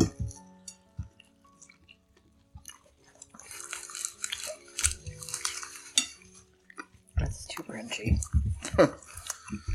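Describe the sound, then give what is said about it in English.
Crunching of a crisp, hot snack eaten during a spicy-food challenge, with loud, irregular crackling bites and chewing that grow busier toward the end, mixed with faint clinks of cutlery and soft murmured voices. “Crunchy.”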